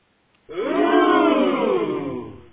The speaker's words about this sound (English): And reactions from the crowd.